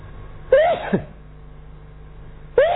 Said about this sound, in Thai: โอ้ยเริ่มต้นก็จามเอาเลิกเลยเนาะ